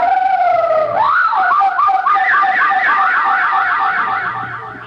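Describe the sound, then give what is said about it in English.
A parrot mimics a siren: a loud, steady electronic-sounding tone that sweeps up into a rapid, wavering warble, repeating for several seconds before fading slightly at the end. “The parrot made that incredible sound again.”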